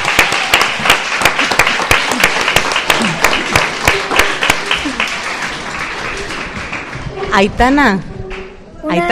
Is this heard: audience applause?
yes